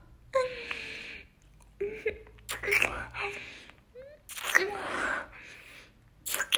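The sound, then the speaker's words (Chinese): Heavy, breathy panting in repeated ragged bursts, some gasps voiced and whimpering, continuing steadily with short pauses between breaths. “这样呢，看你这不停喘气的样子，有点让我更想欺负你了呢。”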